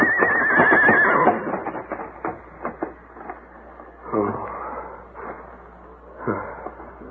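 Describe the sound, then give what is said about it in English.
The horse Silver lets out a loud, quavering high-pitched whinny for about a second, followed by quieter snorts and scattered rustling, with two brief louder bursts later on. “Well, there's a limit to what a horse can do.”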